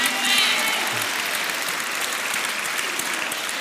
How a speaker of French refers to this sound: Bénissons Jésus pour le don de sa sainte maman. Car c'est aujourd'hui, dites-moi, terminé, l'anniversaire de la naissance de la Vierge Marie. Alors applaudissons aussi.